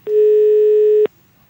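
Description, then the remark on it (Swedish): A single steady telephone ringback tone, a low buzzing hum with harmonics, sounding loudly for about one second before cutting off abruptly into near silence, as a prank call is placed to a man who was caught speeding in his car. “Ja, i den här luringen så ringer vi upp en kille som har varit ute och kört för fort med sin bil.”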